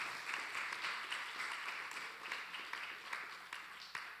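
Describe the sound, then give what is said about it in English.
A crowd of people applauds steadily as a hand clap of praise to the Lord, many hands clapping together in a dense, continuous patter that stays at an even level throughout, with no one speaking. “Can you give the Lord a big hand clap of praise?”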